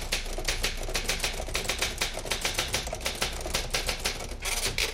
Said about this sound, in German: Früher hat man das auf der Schreibmaschine gemacht und da hat man dann so in die Tasten gehauen, dass das immer so ein bisschen geknattert hat.